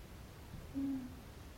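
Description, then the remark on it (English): A single low, steady hooting bird call rises briefly out of quiet background hiss, soft, with no one speaking. “The same bird song.”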